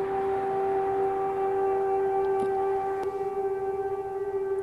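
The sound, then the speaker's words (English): A steady, sustained memorial siren marking Holocaust Remembrance Day wails across Israel at a constant pitch, loud and unbroken, with faint outdoor background noise and no voices. “Earlier this morning, parts of Israel came to a standstill as a siren marked the day.”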